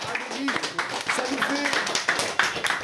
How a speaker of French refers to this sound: Merci. On peut applaudir aussi.